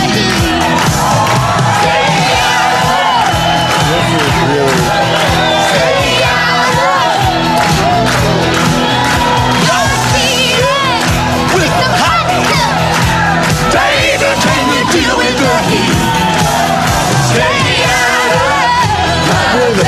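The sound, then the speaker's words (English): A dense crowd of paid New York City hecklers yells and shouts continuously, many overlapping voices rising into loud, rowdy cries and jeers that never let up, with no single voice standing out. “I'm pausing for 1 second just to remind everyone that this crowd has been set up as a crowd full of the New York City's best hecklers.”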